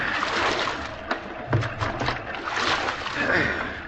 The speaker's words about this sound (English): I'll spell you. We can both do it. Take the right oar